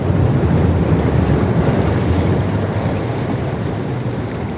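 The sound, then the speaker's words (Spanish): Ocean waves breaking on an open back beach facing the open sea on the outer side of a peninsula, such as Flinders, a steady loud wash of surf with wind rushing across the microphone, continuous throughout and easing slightly toward the end. No voices. “son las playas de olas, son los que se llama el Back Beach, porque si ves la forma de la península, de un lado tiene las playas de agua calma, que son las que están dentro de la bahía, pero del otro lado es mar abierto.”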